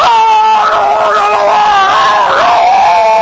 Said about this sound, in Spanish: Porque si usted va al dentista, por ejemplo, sí, y se sienta en la sala de espera y ya oye los gritos de que está dentro.